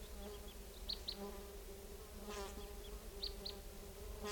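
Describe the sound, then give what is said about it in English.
A flock of about four type 2 crossbills, perched at the top of a tall lodgepole about 60 feet up above a net area, give short, high chip notes in scattered pairs and small bursts, heard over a steady, low insect-like buzzing drone that runs through the whole recording. “Recording, the flock is calling a little bit from the treetops.”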